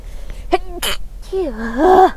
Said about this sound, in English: I'm going to sneeze.